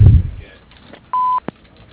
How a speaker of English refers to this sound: If you would like to leave a fax, please do so after the beep.